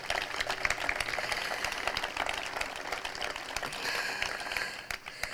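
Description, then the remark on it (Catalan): An audience at Parc de Can Bota claps steadily for several seconds, a dense wash of many hands at a fairly even level that thins slightly toward the end, with no voices over it. “pel qui demano ja d'entrada un aplaudiment abans de posar-nos a parlar d'en Ramon.”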